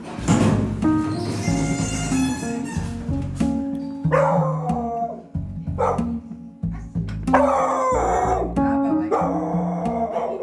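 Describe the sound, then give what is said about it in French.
A dog in an apartment barks and yips repeatedly, with excited, high-pitched whining between the louder bursts, continuing steadily throughout. “Elle me dit qu'il y a un chat et un chien qui vont nous accueillir, mais qui sont sympathiques.”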